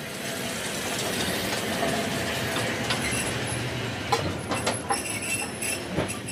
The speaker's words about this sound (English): Train's pulled up right beside us.